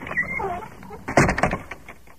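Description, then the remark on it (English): A loose door that is falling off rattles, a quick cluster of clattering knocks midway, preceded by a thin, wavering creak and trailing off into quieter taps. “Look, this door is falling off. It's so loose.”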